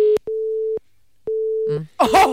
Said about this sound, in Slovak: telefónne číslo nám vyžreboval počítač, vytočili sme ho, začalo to zvoniť a v tom...